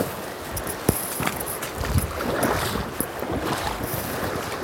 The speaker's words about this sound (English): All right, so there is, the river moves fast. It's like rapids in some parts of it. And there's a rock island in the middle of it, but with a bunch of little rocks.